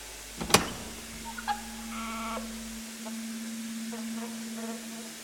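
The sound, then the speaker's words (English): A sharp click, then a small motor hums steadily with faint mechanical ticks and whirs as a little door slides open. “Opening.”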